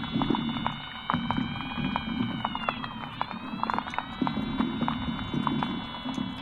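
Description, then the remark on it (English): An underwater chorus of invertebrates living at the bottom in murky undergrowth, such as water beetles and water scorpions: steady high whistling tones that bend and sweep, over a dense bed of rapid clicks and ticks, continuous and fairly loud. “in the murky undergrowths, somewhere between light and darkness, we start to hear all of the invertebrates that live in the bottom. All sorts of creatures such as water beetles and water scorpions.”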